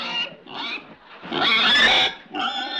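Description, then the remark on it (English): A pig, Arnold, grunts and oinks in four quick bursts, the third a longer, louder squealing snort, with no one talking over it. “Look, I'm not going to stand here and argue with a pig.”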